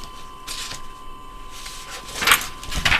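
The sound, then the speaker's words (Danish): Papers being rustled and shuffled in several short, crisp bursts as someone searches through them for an item, a couple of quick ones early and louder, scratchier ones near the end, with no talking. “I kan nok høre, at jeg sidder skræmmende med papirerne.”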